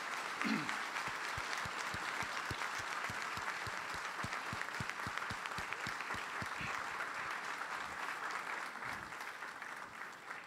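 A crowd claps steadily for about ten seconds, a dense, even wash of many hands with some sharper individual claps standing out, holding a constant loudness before easing slightly at the end.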